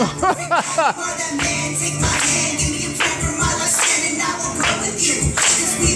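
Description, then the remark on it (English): A crowd claps on the 2 and 4 in steady rhythm along with loud, full music and singing, the sharp claps landing roughly every half second and blending into the dense band and voices. “Who's clapping? Everyone.”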